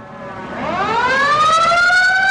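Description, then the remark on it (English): A loud siren wails upward in a long, slow rising sweep, its harmonics gliding together and then holding a sustained, drawn-out tone with no voices present. “It was like a constant drone of sirens that just never went away.”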